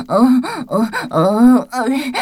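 Several drawn-out, voiced yawns follow one another closely, each rising and falling in pitch with breathy groaning tones, loud.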